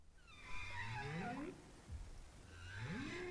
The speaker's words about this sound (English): When bowhead whales pass Utqiagvik on their way up north, it's a good time to count them. These calls, recorded with an underwater microphone, were from whales swimming there last month.